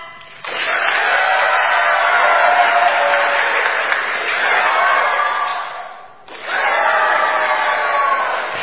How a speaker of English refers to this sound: So let's take a moment and practice, shall we? When I raise this applause sign, you clap and cheer, all right? Here we go.